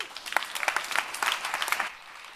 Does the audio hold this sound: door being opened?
no